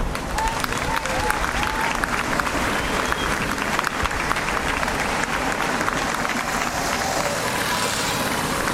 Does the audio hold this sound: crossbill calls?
no